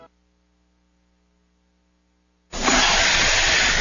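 A low, steady hum gives way abruptly to a loud, continuous rushing hiss of water and air forcing through an RV vent pipe as the RV's freshwater tank overflows into its black tank and backs into the vent pipe, holding strong to the end.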